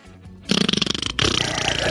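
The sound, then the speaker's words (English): A loud, raspy fart noise in two drawn-out, sputtering bursts after a brief quiet start, with no one talking. “And while you're farting,”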